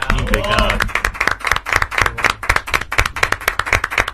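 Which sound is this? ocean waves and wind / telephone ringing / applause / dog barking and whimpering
applause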